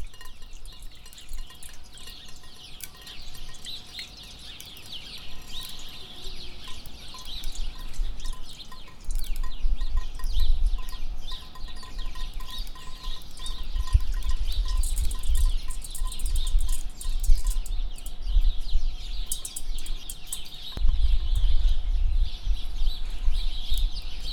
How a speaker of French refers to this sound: Bruit des oiseaux.